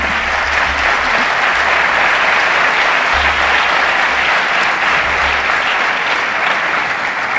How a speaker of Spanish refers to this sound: Un aplauso, sí.